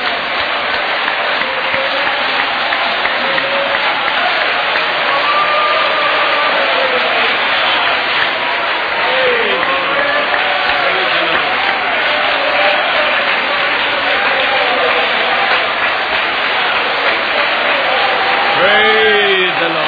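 A church audience gives the Lord a Jewish hand clap in worship, clapping together in sustained, dense applause, with scattered voices and cheers mixed in before it tapers off near the end.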